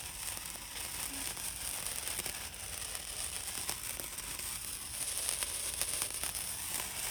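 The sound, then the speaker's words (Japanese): A handheld firework throwing bright, bouncing sparks sputters and crackles with dense, rapid pops over a steady fizzing hiss, fairly quiet and continuous for several seconds with no one speaking. “さっきのパチパチのやつですね。”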